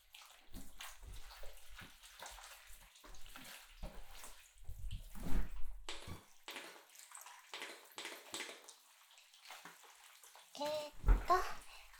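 Wet squishing and rubbing as fingers knead shampoo into a thorough lather in hair, continuing in irregular bursts with a few sharper sloshing moments near the end.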